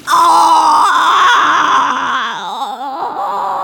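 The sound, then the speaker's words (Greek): A wolf howls in pain after coming down a chimney and landing in a pot of hot water: one loud, unbroken wailing cry lasting several seconds, its pitch wobbling and sliding downward as it goes on, with no talking. “Ούρλιαξε από τον πόνο και πετάχτηκε σαν βολίδα πάλι πίσω στην καμινάδα από εκεί που ήρθε, νομίζοντας ότι η ουρά του είχε πάρει φωτιά.”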